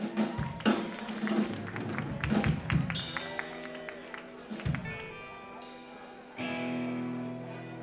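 Audience applause and cheering for a live band, a steady wash of clapping with sharper hand claps and crowd chatter mixed in, tapering off, then a low steady hum rises near the end.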